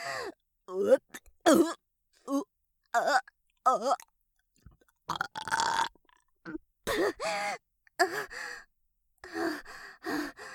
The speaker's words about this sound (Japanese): いやだわ、ゲップなんてはしたない。